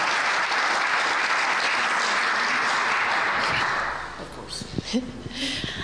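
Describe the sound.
An audience claps steadily in a dense, even wash of applause that fades after a few seconds, leaving scattered claps and a voice beginning to speak.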